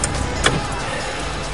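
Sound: car running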